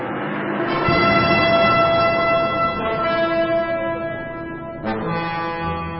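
Several trumpets, blown by priests, blare together in long, sustained, brassy blasts, their overlapping tones held for about six seconds with a couple of brief shifts in pitch. Loud, with no voices.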